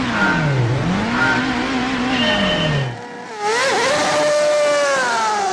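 Loud race car engines roar and rev hard at the start of a race, pitch sweeping up and down as they accelerate away, a brief dip, then another high-pitched engine wail surges in.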